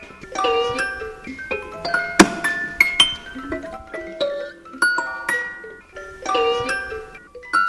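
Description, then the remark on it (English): An antique hand-cranked musical mechanism, of the kind in which old family photographs were kept and shown with music, turns, plinking out a tinkling run of bright metallic notes in an uneven melody, with occasional sharp clicks and a faint creak; it needs oiling. No voices. “Well, it's cranking and creaking a bit.”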